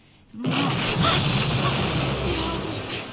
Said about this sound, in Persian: چی بود؟ صدای انفجار راکت بود.